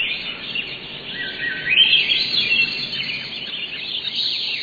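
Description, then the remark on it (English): A dense summer dawn chorus of many birds singing at first light, high chirps and trills overlapping into a steady, busy wash of song with no talking. “In July, you might have heard this dawn song, many birds singing at first light.”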